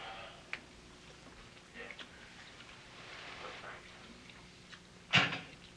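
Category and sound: impact, telephone receiver slammed down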